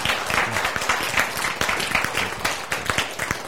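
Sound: audience applause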